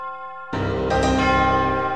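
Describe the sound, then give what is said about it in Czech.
A large church bell, Augustín in Hradec Králové, cast by Ondřej Žáček more than 500 years ago, rings loudly with a deep lingering hum, then fresh clangs at about half a second and one second that fill the air with overlapping metallic tones. “To byla, myslím, krásná slova na závěr našeho pořadu, ve kterém jsme si se zvoníkem panem Davidem Kavkou povídali o královéhradeckém zvonu Augustín a o jeho zvonících.”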